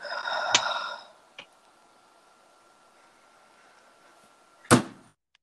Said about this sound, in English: I don't like the door closing sound.